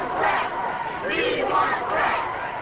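A large crowd of supporters of Brett Favre rallies outside Lambeau Field on a Sunday evening under storm clouds, with lightning and light rain. They shout and cheer together in sustained, overlapping waves, voices rising in rhythmic rally cries that swell and dip without a break.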